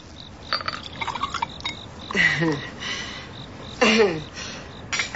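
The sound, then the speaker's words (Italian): Beer glugs and splashes into a glass in two pours at a small private bar under a pergola, each with a rising bubbly gurgle, with a few light clinks. “Un po' di birra?”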